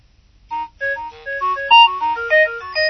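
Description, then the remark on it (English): A phone's built-in ringtone plays while the ringtones are scrolled through: a bright, electronic melody of quick stepping notes after a brief quiet start, fairly loud, with no one talking. “This one that came with the phone.”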